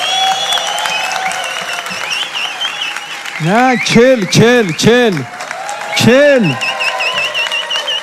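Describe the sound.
An audience claps steadily throughout in applause for a speaker. Midway, a burst of four quick rising-and-falling ululating calls rings out over the applause, followed by one more a moment later.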